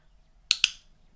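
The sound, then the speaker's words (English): A training clicker clicks twice in quick succession, two sharp, bright snaps a fraction of a second apart, heard alone over a quiet low hum, with no talking. “Oh, the next time you hear this clicker will be when you come, puppy.”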